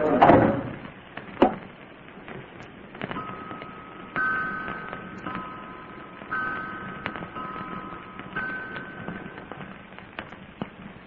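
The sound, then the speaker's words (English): A door is pushed and shut with a single sharp thud, followed by a quiet stretch with faint, steady high tones humming in the background. No one speaks. “And shut the door, Mr. Peavy.”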